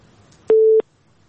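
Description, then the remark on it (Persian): A single short burst of a telephone busy tone, a steady, loud mid-pitched beep lasting about a third of a second, heard alone over faint background hiss, after a caller to a listener call-in programme was cut off. “خب شماره از تلفنشان قطع شد”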